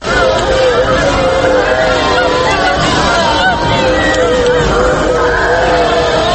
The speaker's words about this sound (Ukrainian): Тисячі людей, що масово ллють сльози і кричать від горя на вулицях Пхеньяна цієї середи, таким чином громадяни Північної Кореї прощаються з їхнім дорогим вождем